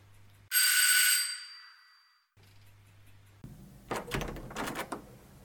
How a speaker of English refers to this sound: I made my way up the block-paved pathway between beautiful standard roses, flanking an immaculately manicured lawn, to the gleaming dark blue front door, and rang the bell.